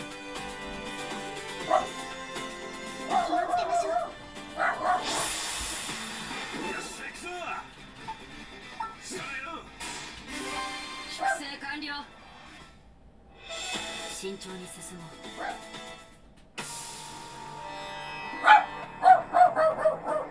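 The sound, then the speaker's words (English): Dogs bark and yip in repeated sharp bursts, fairly loud, with a few high whimpering cries mixed in and a voice faintly heard at times. “Shut up! Sorry, folks. I have dogs.”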